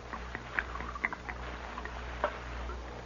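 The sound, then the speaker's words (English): Liquid is poured from a jug into a cup, a soft, steady splashing trickle with a few brief gurgling plops, fairly quiet, with no one speaking. “Here's the jug, Mr. Hantree, and I brought you a cup, too. Pour me some.”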